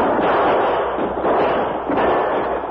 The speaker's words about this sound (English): As the engine came to a stop near the end of the track, the outlaws leaped from the cab with guns in hand and opened fire.